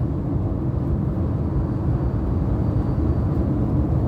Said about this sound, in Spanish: Coche, vale, voy con el coche, ahora mismo voy por la autopista. Voy a escuchar un momentín, un poquito de silencio por mi parte para ver el ruido.